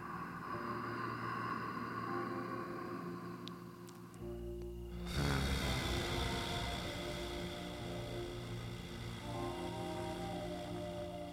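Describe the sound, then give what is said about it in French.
During a guided breathing exercise, a deep breath is drawn in through the nose, then a long exhale through the mouth with a soft, low voiced hum, over a steady background drone with sustained tones. “On va commencer par inspirer par le nez, on va expirer par la bouche. En faisant un petit son”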